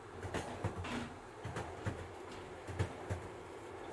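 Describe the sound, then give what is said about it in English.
A steady low rumble of a moving train carriage, with rhythmic clacks from wheels passing over track joints, recorded from inside at a moderate, constant level. No voices. “We're also free to move within the train, but it guides us.”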